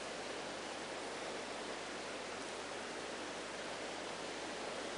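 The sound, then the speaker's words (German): Steady, unbroken rushing water fills the whole clip, a dense even hiss like a waterfall or fast stream, with no voices and no change in intensity. “Das ist interessant, jede Menge Wasser außen, innen ist man staubtrocken, naja.”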